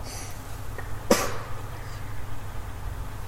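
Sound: sneeze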